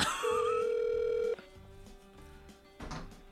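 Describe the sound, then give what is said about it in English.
A phone call to Rob Fee goes unanswered: a ringback tone sounds once, a steady, loud electronic tone lasting about a second, then cuts off into quiet line noise with faint clicks. “Rob's not answering the phone.”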